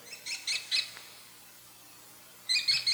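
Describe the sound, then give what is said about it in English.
An American kestrel gives its shrill "killy killy" call: a quick run of three sharp, high notes, a pause, then another rapid burst, fairly clear against a quiet background. “The kestrel often sits on telephone wires along roads and sometimes hovers like a helicopter for a minute or two, examining a field for mice and grasshoppers.”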